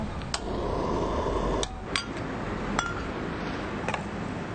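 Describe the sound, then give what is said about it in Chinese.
Steady frying sizzle from a pan as vegan meat slices and vegan ham slices are pan-fried, broken by several sharp, bright clinks of a utensil striking the cookware at irregular intervals; fairly loud, with no one talking. “咱来开始吼煎素肉片甲素火腿。”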